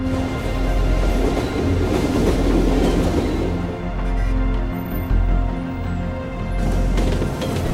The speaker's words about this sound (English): Downtown bridges span the Chicago River. A train crosses a rail bridge.